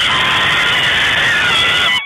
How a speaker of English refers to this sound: So we'll see now where Darwin ranks on that scale. So on the count of 3, you're going to have to cheer as loudly as you possibly can.